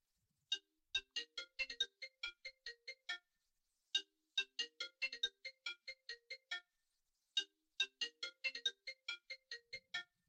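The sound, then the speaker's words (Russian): A mobile phone left in a room during a lecture plays a ringtone: a quick, bright melodic phrase of short tones, repeating three times with brief pauses between, clear, with no one talking over it. “Что-то у кого-то телефон заиграл.”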